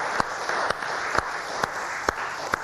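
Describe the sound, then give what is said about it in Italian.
A crowd applauds steadily for Father Tommaso Toschi, a dense wash of clapping with a few sharper, louder claps standing out at roughly half-second intervals; no one speaks. “E allora perché non fare un applauso al nostro padre Tommaso Toschi?”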